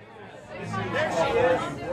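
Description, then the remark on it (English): Many voices overlap in a steady murmur of outdoor chatter, a busy crowd of people sitting outside a bar in Austin, talking at moderate volume with no single speaker standing out, swelling slightly toward the end. “are sitting outside Austin bar Cheer Up Charlie's, away from the noise of a three-band lineup.”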